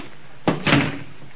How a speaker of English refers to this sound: The back door's wide open. I'll close it. Wait a minute, don't touch it. Don't touch that knob. Kick it shut.